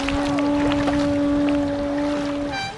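A boat taking PathStar swimmers to Alcatraz around 8 a.m. drones steadily on the water, a constant low hum with a higher tonal whine, while water splashes and churns faintly around the hull; no one speaks.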